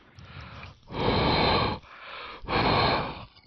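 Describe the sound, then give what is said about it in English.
Two loud, airy breaths blown into a condenser microphone, each lasting under a second with a short pause between, as someone tries to imitate a whooshing sound effect of something going through a tunnel with their breath. “It sounds like you're breathing.”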